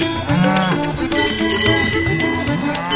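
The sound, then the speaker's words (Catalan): Several cattle low at once, their deep, drawn-out moos overlapping and bending up and down in pitch. The sound is loud and continuous for the whole three seconds, with no talking. “Val més anar sempre a darrere del toro que no per al davant.”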